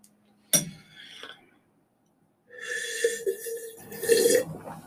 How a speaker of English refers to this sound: That was a long sip.